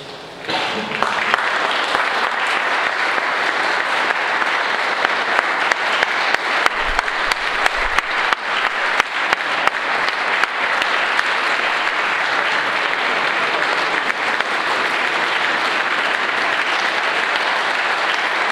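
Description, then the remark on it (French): Sustained audience applause for the singers fills the space, a dense wash of many hands clapping steadily for nearly twenty seconds, loud and without any talking. “garder les chanteurs là pour les remercier et les applaudir.”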